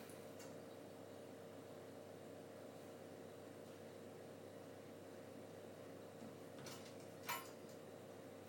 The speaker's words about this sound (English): Why does that keep clicking? When it's on oven mode, it clicks. I suppose it's just what it does. Strange thing.